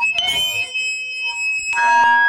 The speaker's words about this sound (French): Un jour, alors qu'il jouait avec sa guitare, il s'est tourné vers son ampli, ce qui a provoqué un énorme Larsen.